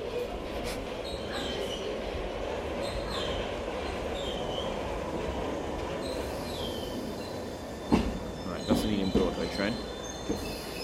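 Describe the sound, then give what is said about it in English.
An underground train bound for Ealing Broadway rolls in along the electric rails with a steady heavy rumble, high metallic wheel squeals drifting over it and a few sharp clanks near the end as it arrives. “Is an Ealing Broadway train.”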